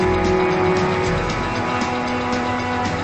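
A Volvo car pulls up at a farmhouse, its engine humming steadily, the pitch dropping slightly partway through as it slows to a halt. No voices are heard.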